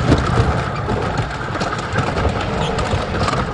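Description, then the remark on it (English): A car with red leather seats on a wooden roller coaster rattles and rumbles loudly as it nosedives from the peak of the first hill, lurching from side to side, a dense, continuous clatter of wheels on rails that stays steady throughout. “At the peak, gravity takes over, and Clarence's car nosedives into a valley.”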